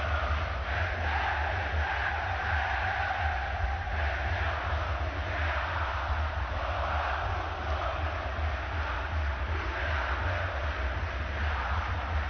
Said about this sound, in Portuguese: E a torcida do Atlético canta o hino agora no Mineirão.